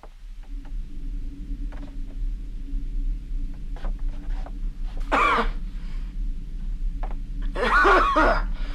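Two harsh coughs from a woman a few seconds apart, the second longer and rougher, set against a steady low rumble with faint footsteps and camera clicks in between, inside a house.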